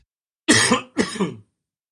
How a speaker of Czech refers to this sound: Kašlík máš taky, no, každý jsme měli. Zrovna mě přepadl.